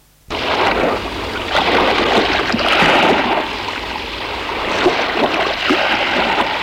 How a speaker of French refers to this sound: La porte s'ouvre. Elle laisse entrer le bruit de la mer et le vent.